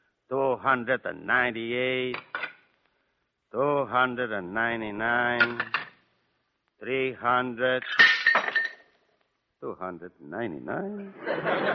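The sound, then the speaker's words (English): Dishes being washed by hand in a kitchen clink and clatter in a few brief bursts, with a sharper crash of glass or crockery near the middle, amid chuckling and voiced sounds that come in short spurts with pauses between. “All night long I wash dishes.”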